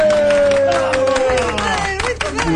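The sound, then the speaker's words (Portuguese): A crowd in the seafood restaurant Ao Petisco Doirado claps steadily for a happy couple, the irregular claps loud, with a voice or sustained tone running underneath and background chatter mixed in. “enquanto toda a gente, na marisqueira ao petisco doirado, bate palmas ao feliz casal.”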